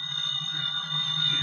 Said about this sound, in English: Well, seems to be a phone ringing in the other room. Oh. Oh, yes, there is. most unusual sort of ring. Can't be an ordinary phone.